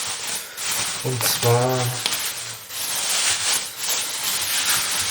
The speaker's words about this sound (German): Na, ich höre doch da schon wieder eine Tür. Ja, ich höre eine Tür, man hat es schön quietschen hören